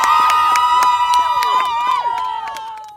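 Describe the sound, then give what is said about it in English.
A crowd of young voices shouts the MIT school cheer ('go Tech') together in rhythmic, punchy bursts, then breaks into loud, sustained whooping and cheering that slowly fades. “And that's the lovely cheer.”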